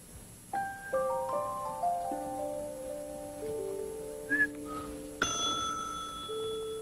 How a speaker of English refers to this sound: Oh, the sound of money. Oh, the sound of the cash register.